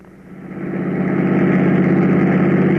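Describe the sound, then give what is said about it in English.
A car engine idles with a steady low rumble and throb, swelling slightly in the first second and then holding constant, with no voices over it. “All right, park the car, quick.”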